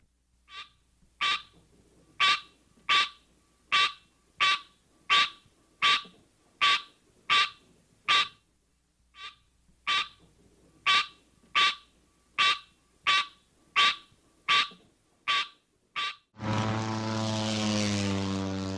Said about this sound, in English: the green tree frog, Hyla Cinerea, has this call.